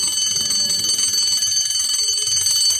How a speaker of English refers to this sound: Suddenly, she heard the bell.